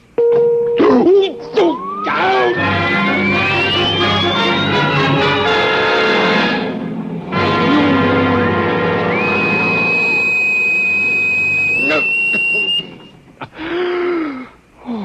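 A vibration device set to vibration level 2: a loud, dense electronic buzzing drone with a whining tone that climbs steadily in pitch, then holds high and steady. The hum cuts out briefly midway before resuming and fading with a few wavering sounds.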